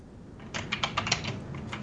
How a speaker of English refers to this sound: I can hear you typing. My big keyboard. It's my big keyboard. It is a big keyboard. An old school mechanical Apple keyboard, like a big one.